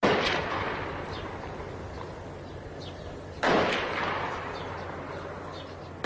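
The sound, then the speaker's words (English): Gunfire and artillery from fighting in Daraa, Syria, heard in the audio of a YouTube video: two heavy, booming blasts roughly three seconds apart, each with a long rumbling decay, over a constant low noisy background with no voices. “That's fighting from Daraa.”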